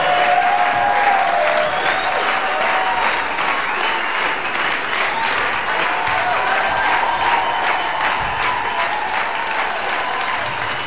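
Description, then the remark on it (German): A large audience claps and cheers to greet the star guest Ricky Rock as a pastor announces him on stage, in sustained, dense applause that stays loud and steady throughout, with a few whistles rising above the clatter of hands. “Begrüßt unseren Stargast, einen großen Applaus für Ricky Rock.”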